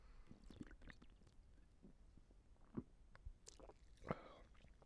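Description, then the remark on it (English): Someone takes a quiet sip of a drink, with a few soft wet slurps and mouth clicks, then a small swallow; no one speaks. “Let's do one more sip because that's the what we're doing here.”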